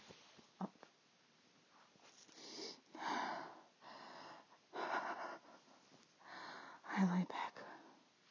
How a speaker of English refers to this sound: Breathing heavily and quivering.